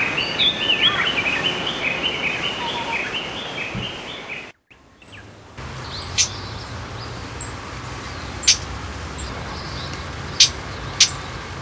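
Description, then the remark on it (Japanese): A Japanese bush warbler gives a handful of short, harsh ground call notes, spaced irregularly against a quiet outdoor background, following a few seconds of busy mixed birdsong at the start. “地鳴き。今のはウグイスでした。”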